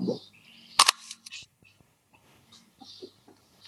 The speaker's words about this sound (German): Und wenn dieses Nachklappen kommt, dann weiß man sofort, eigentlich ist die Kamera in Ordnung.